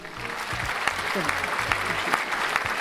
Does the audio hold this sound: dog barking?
no